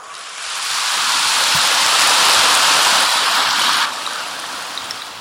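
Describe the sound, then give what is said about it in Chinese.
A short round of audience applause, a dense crackling patter that rises quickly, holds for about three seconds, then drops off abruptly to a few scattered claps. “鼓掌的不多，就是没听懂啊。”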